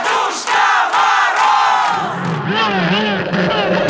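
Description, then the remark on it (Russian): A crowd shouts together in unison, calling for Ded Moroz (Father Frost), a loud sustained group call with many voices; partway through the sound shifts into long, drawn-out wavering cries that rise and fall in pitch. “Нет, нам надо кричать очень дружно!”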